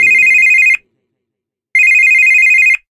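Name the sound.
telephone ringing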